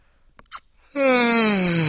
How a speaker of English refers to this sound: Yeah, I know, it's rude to yawn, but man, this whole daylight savings time thing, and that dog barking last night,